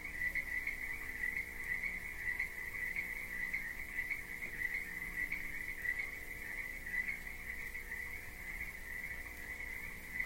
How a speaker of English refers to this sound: We're standing in the middle of a field right now. You can hear cows in the distance and crickets in the grass.